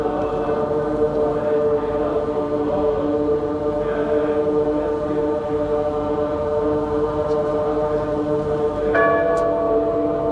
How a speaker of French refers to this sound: Quelle ambiance sonore avec un crescendo, les cloches, le chant qui monte.